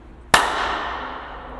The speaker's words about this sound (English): You can't tell me that isn't. That's a good clap. I have a very loud clap, yes.